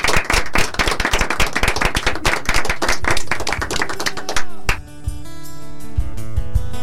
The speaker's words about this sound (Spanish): Con un aplauso grande terminamos el programa.